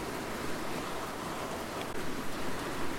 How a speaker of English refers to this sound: The rain is still coming down. I'm looking forward to when it stops and warms up and I can get some hammock time.